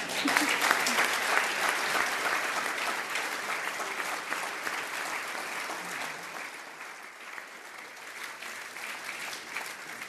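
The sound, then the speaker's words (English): Sustained audience applause after a farmer's story, a dense steady clatter of many hands clapping that holds for the full stretch and tapers slightly softer toward the end. “Thanks for your applause and your reception to Susan's remarkable story.”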